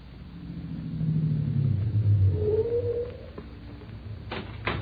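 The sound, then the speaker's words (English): A car engine rumbles low and steady, then revs up with a rising whine before settling back down. A couple of sharp knocks follow near the end, with no talking. “Take the car around back to the garage”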